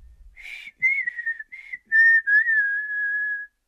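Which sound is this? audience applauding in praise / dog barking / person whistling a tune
person whistling a tune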